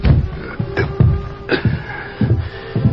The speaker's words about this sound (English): It was shortly after darkness had fallen. Lem Decker was in his home when a rap sounded on the door.